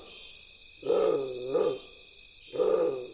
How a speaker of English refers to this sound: And as it vocalizes, it extends the neck outward about as far as it can possibly go. It gives this deep, low sound. When I was making this recording of the bare-throated tiger heron, it was nightfall, And that's when this bird begins to call.